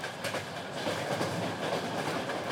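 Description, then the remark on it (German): A train rolls steadily along the rails in Ukraine, its wheels giving a continuous rumbling clatter with a faint clickety-clack rhythm. No one is speaking. “Die Ukraine ist ein Eisenbahnland.”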